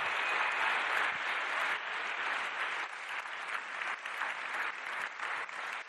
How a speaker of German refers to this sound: Ich glaube, der Einstieg ist schon ganz gut gelungen, das aber hauptsächlich an dir lag. Also bitte, bitte nochmal ein letztes Mal einen großen Applaus